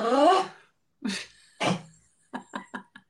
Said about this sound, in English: Now he's sneezing.